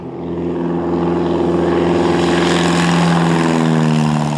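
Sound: small propeller airplane engine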